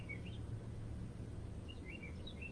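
Birds chirp outside in short, scattered high tweets, faint, over a steady low hum of an air conditioning unit. No one speaks.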